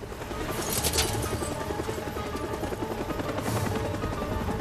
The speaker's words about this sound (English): As the helicopter hovers above, its bright searchlight picking out the crippled jeep,